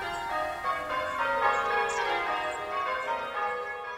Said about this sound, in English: All Britten's walks were within the sound shadow of the bells of Aldborough Parish Church